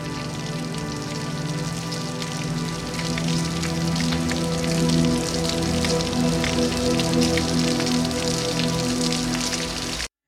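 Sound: rain pouring down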